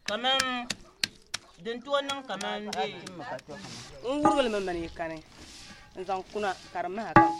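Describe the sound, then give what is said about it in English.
Sharp, hard knocks of long sticks crushing hard white shea kernels after the shells are cracked open, irregularly spaced, mixed with voices that sound like singing or chanting over the work. “The shells are cracked open and the hard white kernels crushed with long sticks.”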